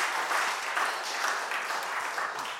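A church audience claps in a steady round of applause for a guest joining them, a dense, even patter of many hands that holds at a moderate level for a few seconds before easing slightly.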